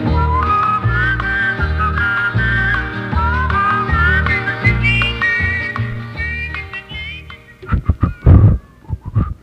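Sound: human whistling a tune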